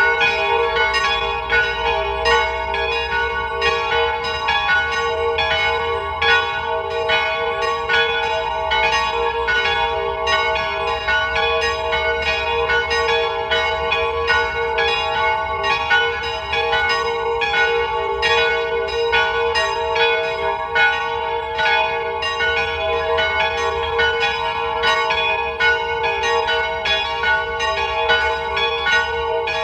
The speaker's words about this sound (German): Es ist 12 Uhr. Sie hören die Glocken der Wallfahrtskirche St. Nikolaus bei Ebbs in Tirol.